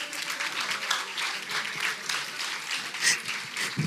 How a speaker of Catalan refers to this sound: Aquí la gent aplaudeix també.